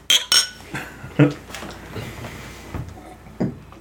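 Glasses clink together during a toast, two quick bright chimes at the start, followed by a few scattered lighter clinks and soft clatter.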